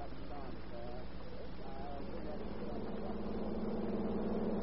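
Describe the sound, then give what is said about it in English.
A car engine runs with a steady, low droning rumble, holding an even level for several seconds, while a faint, muffled voice briefly surfaces early on. “I'll call for you in 10 minutes in my car.”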